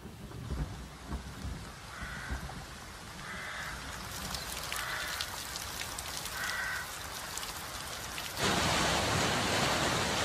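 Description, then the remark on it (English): Heavy autumn rain pours down steadily in a dense, hissing wash, with four crow caws spaced through the middle and the downpour surging louder near the end. “October and November are amongst the wettest months of the year, with rain falling on 2 out of 3 days.”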